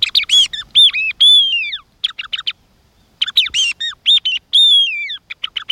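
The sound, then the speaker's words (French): A thrush sings clear, fluting phrases in two bursts separated by a short pause, each made of varied whistled notes and quick repeated motifs, loud with no other sounds. “Alors elle chante aussi peut-être pour compenser, parce que c'est un oiseau qui a pas mal eu de difficultés avec l'homme. On en a fait des pâtés de grive, les a chassés, mais alors de façon honteuse, avec des lecs qui sont des pièges”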